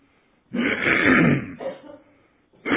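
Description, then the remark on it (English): A man clears his throat before leading a prayer: one long, loud raspy rumble followed by a shorter, softer rasp, then another harsh burst starting just as it ends. “Pardon my clearing my throat.”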